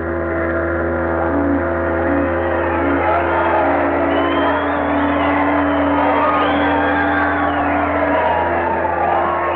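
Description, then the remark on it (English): A large crowd roars in sustained celebration, a dense wall of shouting, whoops and cheers that stays loud and continuous from start to finish, with no single voice standing out. “There was shouting and rejoicing. There was singing and laughter.”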